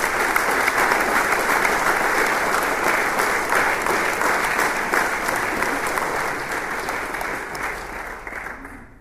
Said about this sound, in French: parce que eux, on peut les applaudir.